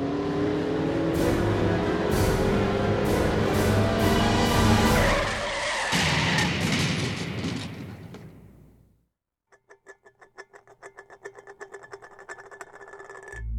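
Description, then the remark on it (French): A car engine roars and revs hard with screeching tires as the car runs a red light at an intersection at 12:12 a.m., for several seconds before fading out; after a brief silence, a steady rhythmic ticking follows. No one speaks. “Malheureusement, Maurice Vapena omit de tenir compte de ce détail et passa le feu rouge le pied sur la pédale de l'accélérateur.”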